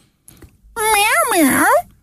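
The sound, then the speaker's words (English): A person imitates a cat with a single drawn-out, wavering meow, loud, its pitch rising and falling over about a second, preceded by a faint breathy noise. “Although, if you want to win the show tonight in the style of a cat... Yes, please. This is how it would sound.”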